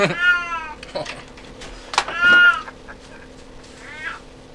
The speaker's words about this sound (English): I've been having to put my old cat in the litter box because he doesn't know how to get there anymore. When he starts meowing like that, I know he's got to piss.